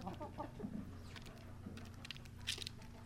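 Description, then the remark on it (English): Chickens peck at food with quick, scattered tapping clicks, while soft low clucks murmur underneath, fairly quiet, with no voices present. “Speaking of birds, if you're lucky enough to own your own chickens, you'll recognize the sound of them pecking away at some food, giving them the fuel they need to lay their eggs.”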